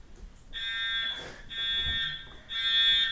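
A fire alarm blares in three loud, shrill electronic bursts, each about half a second long, separated by short pauses filled with muffled background noise.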